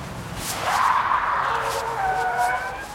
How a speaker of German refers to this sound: Was ist denn das? Siehst du das Auto da, das mit den quietschenden Reifen um die Kurve fährt? Oh, jetzt hat es angehalten und jemand steigt aus.